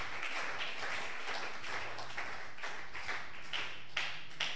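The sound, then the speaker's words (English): An audience claps steadily throughout, a dense wash of many hands with occasional sharper bursts, moderately quiet, with no talking. “If you are clapping, do that better.”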